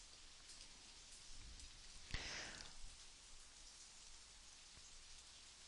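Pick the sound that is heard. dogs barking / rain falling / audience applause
rain falling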